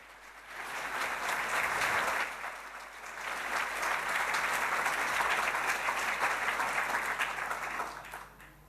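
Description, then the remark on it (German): An audience applauds a speaker being introduced, steadily for several seconds, a dense, even wash of many hands clapping that swells quickly, dips briefly, then holds at a consistent level before tapering off. “Bitte einen herzlichen Applaus für ihn.”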